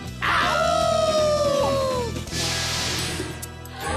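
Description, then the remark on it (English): A couple of voices howl like wolves together for Halloween, long sliding wails that rise and then sink for about two seconds, loud, before fading into a noisy rumble. “Yep, and it's time to howl! Howl!”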